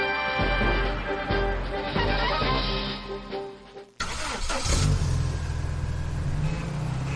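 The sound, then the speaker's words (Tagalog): A car engine revs loudly, its pitch climbing and dropping in bursts, then cuts sharply into a rougher, fuller roar that sustains steadily to the end. “Sikat ako sa syudad tulad ng mga kotse na bumubo ng 30% ng aking mga alagad.”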